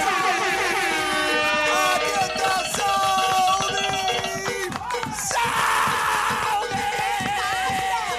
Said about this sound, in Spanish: Aplauso, please, que se caiga la casa, vale.